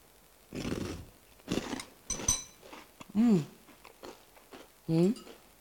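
Crunchy chewing of brown and white cereal balls in several irregular bursts, followed by a couple of short, pitched hums from the person eating, with quiet gaps in between.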